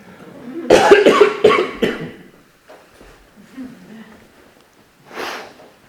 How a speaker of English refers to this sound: I don't have COVID. I just got strangled on a cough drop.